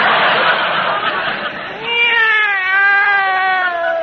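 cat meowing

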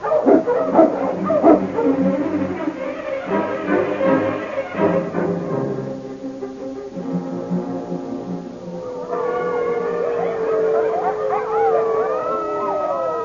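wolves howling

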